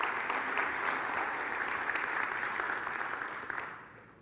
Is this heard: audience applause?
yes